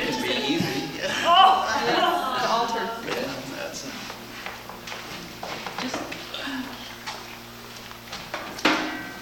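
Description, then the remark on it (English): A nightstand drawer slides with a wooden squeak and rattle, followed by several soft knocks and bumps, ending in a sharper thud as it shuts. “That's my nightstand.”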